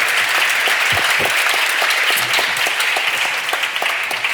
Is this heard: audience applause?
yes